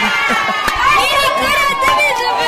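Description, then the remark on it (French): A loud crowd of finalist students in the commune of Luena ululating and shouting with joy at public booths as their exam results are published, many voices overlapping in high trilling cries and excited yells throughout, with a couple of sharp bursts standing out. “Tout d'un coup, ce sont des youyou et les cris de joie qui ont été poussés par ceux-là qui ont satisfait.”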